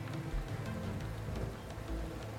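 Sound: rain falling outside window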